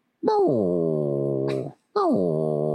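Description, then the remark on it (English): A male dog lets out two long, drawn-out whining cries, each starting with a quick downward slide in pitch and then holding steady. The first cry is longer, followed by a brief pause. “Oh, he's a cute dog.”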